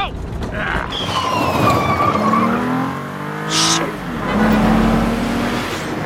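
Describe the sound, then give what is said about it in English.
A Mazda car's engine roars and revs while its tires squeal in several sharp, drawn-out bursts as it chases a cyclist under the rusty trestles of an elevated train track. “He veers under the elevated track's rusty trestles as the car tails him.”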